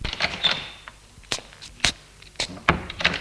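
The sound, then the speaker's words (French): The front door of an old house being opened at night: a series of sharp latch clicks and wooden knocks spread over a few seconds, fairly quiet, with no voices. “Ouvre.”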